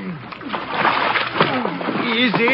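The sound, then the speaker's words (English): Water splashes and sloshes steadily around a launch as a man floating in the water is pulled aboard, while several men's voices strain and call out over the noise, fairly loud. “Abura, Abdul, pull him out of the water.”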